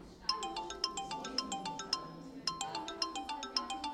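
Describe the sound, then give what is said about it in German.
A mobile phone rings during a lesson in class, with a repeating electronic melody of quick, bright tones, loud, pulsing in a steady rhythm with no one speaking. “Handy klingeln im Unterricht geht gar nicht.”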